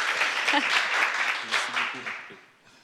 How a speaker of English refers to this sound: Vous pouvez applaudir Elder chez vous. Okay, genre. Let's clap. All in our living rooms.